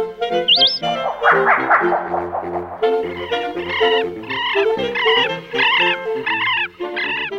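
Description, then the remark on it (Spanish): Wild birds call loudly and continuously, a brief rising whistle at first, then a dense chorus of repeated, harsh, rhythmic calls overlapping one another, with no talking. “presentan Las voces de las aves de nuestro país.”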